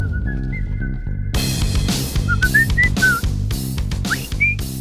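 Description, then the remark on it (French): A clear whistled melody of short rising and sliding notes rides over steady background music with a thumping beat. The whistling is prominent, and no one speaks. “Tu es capable de siffler, toi”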